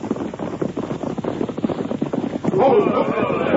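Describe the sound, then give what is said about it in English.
Several horses gallop closer, led by a sheriff riding in front, their hooves pounding in a fast, dense rhythm that grows louder toward the end, with a rushing, windy background. “Here they come. It's all right. That's the sheriff riding in front.”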